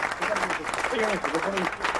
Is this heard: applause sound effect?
yes